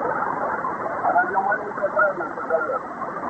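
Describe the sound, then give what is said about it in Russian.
A faint amateur radio transmission during a Tambov radio amateurs' round table is buried under steady hiss and crackle of static, with a muffled voice barely rising through the interference for a few seconds. “У меня на уровне помех моих. Ну, тем не менее, сигнал слышу.”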